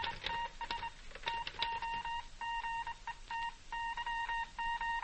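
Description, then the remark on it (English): Telephone dialing tones beep in a quick, irregular string of short electronic bursts, then settle into evenly spaced groups of steady tones, clear with no voices. “Your telephone. Receiver.”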